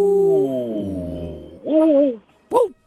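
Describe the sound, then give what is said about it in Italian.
A wolf lets out a long, steady howl that slowly falls in pitch, followed by two short, wavering howls. Clear, with no talking. “Il cane o il lupo? Ciao, lupo.”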